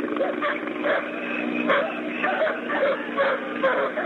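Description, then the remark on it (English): Several dogs bark and yelp in an overlapping, continuous chorus, with high whimpering cries mixed in, while helicopters whir in the background, on a thin, band-limited line. “In the background, we can hear the helicopters whirring, the dogs.”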